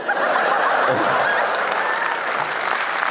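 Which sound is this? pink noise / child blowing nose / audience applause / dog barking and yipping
audience applause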